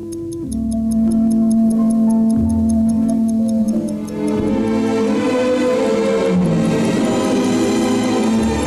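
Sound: clock ticking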